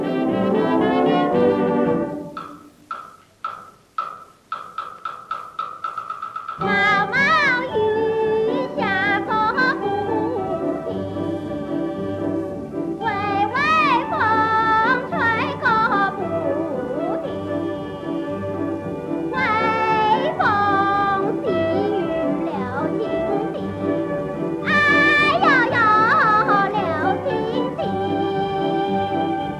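An old-fashioned pop song with a high, thin female voice singing over a small band, opening with a few seconds of choppy, staccato instrumental notes before the steady accompaniment begins.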